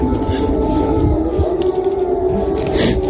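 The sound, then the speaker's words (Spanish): A wailing air raid siren in Ukraine, warning that a bombardment is near, drones steadily throughout, loud and sustained with a rising-falling pitch, heard over dense low background rumble with no voices. “suenan las sirenas que indican que un bombardeo está cerca”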